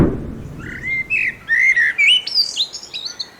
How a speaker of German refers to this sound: Das war die Amsel.